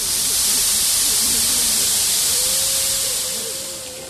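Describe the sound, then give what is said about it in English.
A steam press, with a diamond rattlesnake placed in it and its lever pulled to make snake oil, lets out a loud, steady hiss of escaping steam that runs continuously for about four seconds, with faint whistling tones underneath, tapering off slightly at the end. “I place it here in this steam press and pull the lever.”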